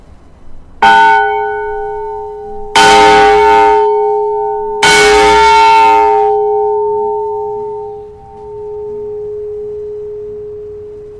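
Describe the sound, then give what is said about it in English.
A large, heavy bell about the size of the Liberty Bell, once an emergency fire warning bell, marked Naylor Vickers and Company, Sheffield, number 890, is struck three times at a slow, uneven pace, each strike ringing out loud before the deep, humming tone lingers and slowly fades into silence. “Levon is going to chime the bell that used to serve as an emergency warning of a fire.”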